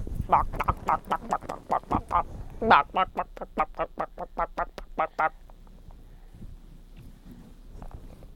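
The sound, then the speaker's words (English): A toy chicken, sounded by hitting its little eye, clucks in a fast, steady run of about twenty bright, nasal pulses lasting roughly five seconds, fairly loud, then cuts off into near silence. “If you hit that little eye, it should make a sound.”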